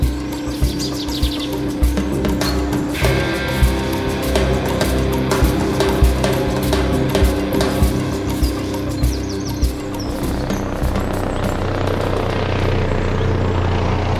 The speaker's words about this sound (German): Klappt, Heli kommt gleich, sagt er. Hoffentlich schafft er es auch noch rechtzeitig.